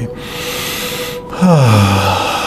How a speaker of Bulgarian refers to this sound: И задръж в рамките на приятното. Твоето усещане, колкото ти усетиш, не повече, не по-малко, нито много, нито никак. И когато решиш, издишай.